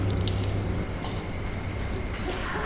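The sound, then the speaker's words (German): Continuous wet squelching and smacking, like flesh being squeezed and pressed, from a Florentina Holzinger performance, with dense sticky clicks and slaps running steadily for a few seconds over a low rumble, fairly loud, with no voices. “Zum Beispiel das schmatzende Fleisch bei Florentina Holzinger.”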